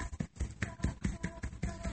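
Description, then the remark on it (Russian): Fingers tap on the breastbone as part of a self-massage exercise, in a quick, steady rhythm, about ten dull thumps over two seconds, with no talking. “Постучиться по грудине.”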